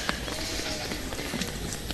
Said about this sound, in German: Hört ihr das scheppern gerade? Das war eine der Ziegen, die ihren Bauch am Zaun gerieben hat.